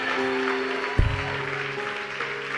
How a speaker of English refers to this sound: Come on, somebody, give the Lord a big clap and a shout. Amen.